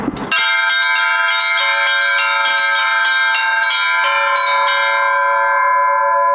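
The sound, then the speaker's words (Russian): Church bells at a bell-ringing festival ring in the Moscow diocese style, a fast, festive liturgical peal of rapid repeated strikes over a sustained shimmering hum of overlapping tones, loud with no voices. “Московская епархия, она центральная, и здесь более быстрые темпы, праздничные, звучные, то есть на звучных голосах.”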